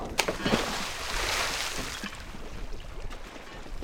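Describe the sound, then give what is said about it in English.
A metal anchor and then a 60-pound sandbag are tossed into the Kenai River while a net is being set, with sharp impacts early on followed by a steady wash of churning, sloshing water and faint boat-like background noise. “tossing a metal anchor followed by a 60-pound sandbag into the river.”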